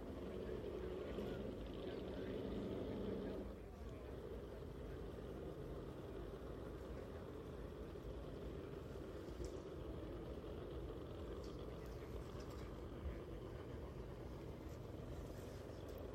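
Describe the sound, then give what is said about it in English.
A low, steady engine roar from racing cars far off, droning continuously without a clear build-up, with a slightly fuller, tonal hum in the first few seconds before settling into an even rumble. “That anticipation, waiting for the, you can hear the cars in the distance, waiting for the thunder past you.”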